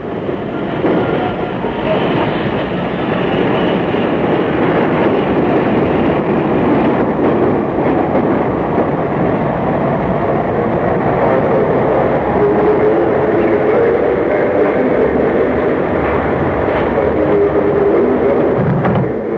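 A train rolls steadily along the rails, with a loud, continuous rumble and rattle of wheels over the track, unbroken for the whole stretch, with no voices.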